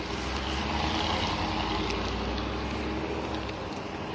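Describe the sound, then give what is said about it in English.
A large truck rumbles on the street, its heavy engine producing a loud, steady roar with deep low-end drone that fills the whole moment, with no one speaking. “Big ass truck, get out of the way.”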